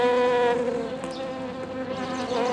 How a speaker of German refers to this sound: Ach ja, die Honigbiene.